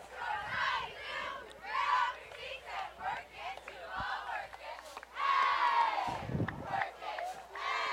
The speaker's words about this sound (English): So cheerleaders getting into this game as they're trying to rile the crowd up here.